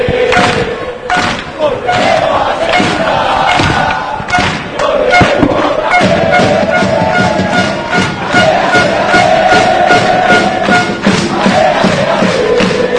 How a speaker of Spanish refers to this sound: palmas en el nuevo vivero para alentar a los de Salmerón, para alentar al decano